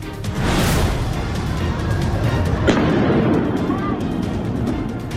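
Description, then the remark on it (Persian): Scattered sharp pops and bangs like gunfire and explosions, with one stronger blast midway, rise from a dense, roaring outdoor din mixed with indistinct shouting voices, during a large fire at Evin Prison in Iran, with the area surrounded by security forces. “آتش سوزی گسترده در زندان اوین همراه با صدای انفجار و محاصره منطقه از سوی نیروهای امنیتی.”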